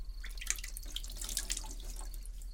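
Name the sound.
water poured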